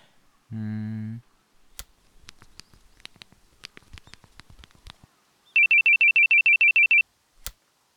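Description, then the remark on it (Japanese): A phone's incoming email alert: a short low buzz, some light tapping, then a quick run of about ten high electronic beeps, loud, with no one speaking. “だからメールで言うのやめろよ。”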